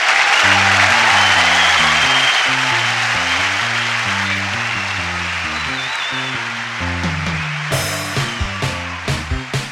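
A crowd at a band competition in Los Angeles applauds loudly and steadily to welcome a band from Huntington, West Virginia, while a bass-heavy music groove plays beneath; the clapping thins out near the end as sharp drum hits come in.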